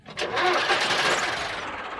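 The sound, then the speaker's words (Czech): A large truck engine starts up at night, cranking briefly before roaring into a loud, steady rumble that holds for a couple of seconds. “Spustili motor. Tak hlasitě. Zřejmě je to velké nákladní auto.”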